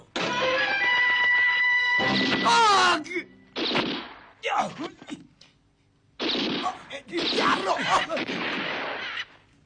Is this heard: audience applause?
no